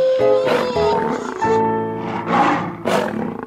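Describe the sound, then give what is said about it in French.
Loud animal cries: many lions roaring over one another on an island, mixed with sustained, wavering wolf howls, filling the whole stretch with no pauses and no speech. “Sur son île, il y a déjà plein de loups et de lions qui m'ont tout l'air d'être d'anciens humains.”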